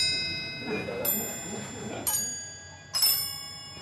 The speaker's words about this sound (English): It's really a giant music box with three barrels that are pinned with three rows of bells. And as you turn the handle, the three barrels turn in synchronization. And there are three separate musical ideas, one on each barrel.